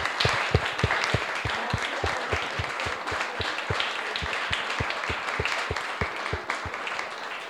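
Sustained audience applause, a dense wash of many hands clapping with a steady, slightly uneven rhythm of sharp individual claps standing out, holding a fairly constant loudness throughout without any talking.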